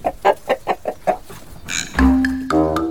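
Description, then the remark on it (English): A chicken clucks about six times in a quick, steady rhythm, each cluck short and clear, followed by a few seconds of sustained tonal sounds, with no talking. “He heard a little clucking noise in the distance.”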